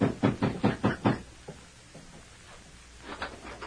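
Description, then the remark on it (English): A rapid series of about six firm, loud knocks on a wooden door by an arriving sheriff, followed by a few fainter taps and then another short burst of knocking near the end. “Come on in, Sheriff. Don't waste time in blabbering at the door.”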